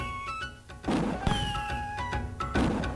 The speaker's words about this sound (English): Oh. Drums are still... really weird. If you listen closely, the pitch of them is a little bit different.